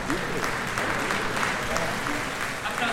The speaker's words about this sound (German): Pressekonferenz der CDU. Applaus. Friedrich Merz betritt den Saal. Es ist sein erster Auftritt nach der Wahl.